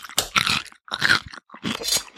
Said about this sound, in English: I'm just sniffing the pickle. I'm going to eat the nubby end.